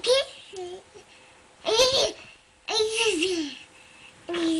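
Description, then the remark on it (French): A baby babbles and coos in short, high-pitched vocal bursts separated by brief pauses, with no adult talking. “Un petit babillement, un petit gazouillis de bébé.”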